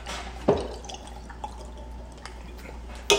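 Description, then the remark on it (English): Two sharp hissing pops, one at the start and one at the end, open drink cans, with a soft steady trickle of liquid being poured in between. No one speaks. “Let's crack them open.”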